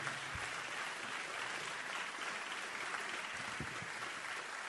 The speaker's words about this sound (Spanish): Y hoy, permítame decirle que es un momento medio especial, porque hace unas horas, hace un día, nada más, falleció el presidente de Joven Tango. Y se me ocurre no hacer un minuto de silencio, sino un fuerte aplauso para Hugo, para el querido Hugo.